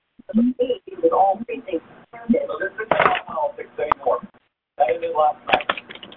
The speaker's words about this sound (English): you mute your phone by pressing star 6. That way your background television noise or whatever it is will not be heard.